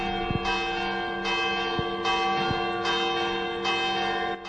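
church bells ringing

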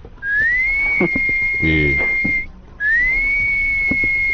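whistling

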